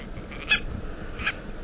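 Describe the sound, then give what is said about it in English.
A Hawaiian owl (Akeapola owl) gives two short, high-pitched calls about three-quarters of a second apart, fairly faint against a steady background hiss. “Or perhaps the seeds hitched a ride on the ancestors of this Akeapola owl we're hearing, caught in a storm and blown to the Hawaiian Islands.”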